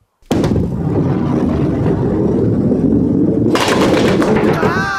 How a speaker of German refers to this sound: Und hier mit der Kugel versuche ich gleich die Kegel da hinten umzukegeln. Passt auf.